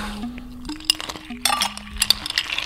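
Ice cubes clink and rattle into a glass of vinegar syrup and water in a quick, irregular burst of bright, glassy knocks, with a steady low hum running underneath and no one speaking.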